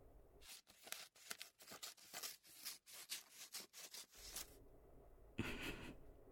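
Scissors cut clothing to lower its neckline: a quick series of crisp snips, a dozen or so in an uneven rhythm, then a pause and a brief rougher cutting burst at the end. No one speaks.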